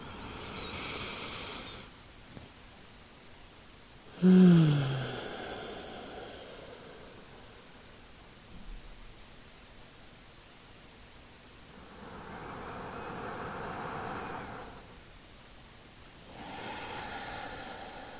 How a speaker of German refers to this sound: nimm dir einfach jetzt diesen Moment, um ein bisschen bewusster zu atmen, den Fokus auf deinen Atem zu lenken, mit mir gemeinsam tief in den Bauch, in den Herzraum, Brustraum zu atmen für 3 Atemzüge und 1 Minute ganz bewusstes Atmen.